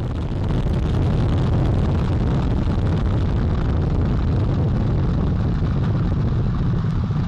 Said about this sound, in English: All four RS-25 engines on the core stage and two solid rocket boosters now propelling the vehicle at 128 miles per hour.